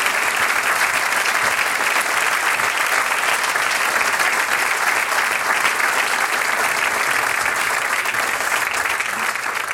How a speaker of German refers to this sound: Das gehört dir und du kriegst noch einmal einen Applaus.